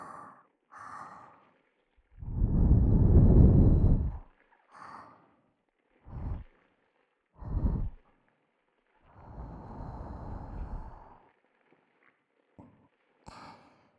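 Soft breaths blown into the ear, with a long airy exhale followed by several shorter puffs and a second gentle breath, intimate, with no talking.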